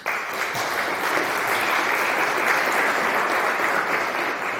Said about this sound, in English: So give him at least a big round of applause.